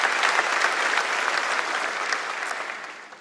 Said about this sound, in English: Come on, clap if you really believe it, all right.